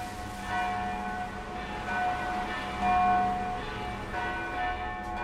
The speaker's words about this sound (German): Auf dem Weg vom Bahnhof zum Zentrum befindet sich die christlich-orthodoxe Dreifaltigkeitskirche der Stadt. Die Glocken läuten zu einer Beerdigung.